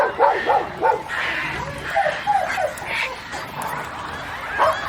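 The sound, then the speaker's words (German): A dog barks repeatedly in short, yappy bursts, with some whimpering between them. The barks come in a quick, irregular rhythm, moderately loud. “Hunde bellen, Katzen miauen, Vögel singen und Frösche quaken.”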